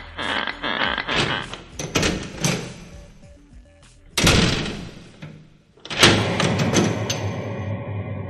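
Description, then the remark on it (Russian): Two people's footsteps thud up old, creaking wooden stairs, followed by a heavy wrought-iron attic door scraping open and slamming shut with a loud, resonant clang, all without any talking. “Поднявшись по старым скрипучим деревянным ступенькам, они зашли за железную кованую дверь старого чердака.”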